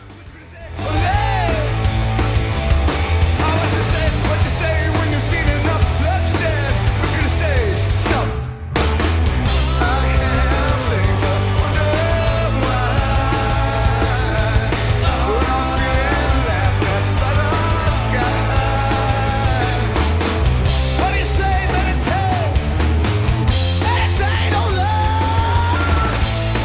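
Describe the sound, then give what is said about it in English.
Loud live rock band playing with heavy drums and bass, a male singer's raw screamed vocal tearing and breaking up over the dense, distorted mix, with a brief drop near the middle. “God, his voice, those screams breaking up were great.”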